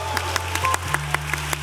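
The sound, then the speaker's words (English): Short burst of audience applause at a live show, sharp claps landing every fraction of a second over a steady low hum, moderately loud and brief with no voices. “Round of applause for her.”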